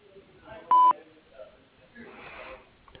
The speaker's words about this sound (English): I'm sorry we couldn't be here to receive your message. Please leave a message after the beep, and we'll get right back to you.